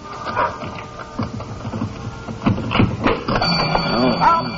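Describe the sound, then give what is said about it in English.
A store's burglar alarm rings as the store is unlocked with a key, a harsh, continuous mechanical clatter, loud and steady for several seconds, with a higher metallic tone coming in toward the end and brief voice-like sounds over it. “I always forget that burglar alarm.”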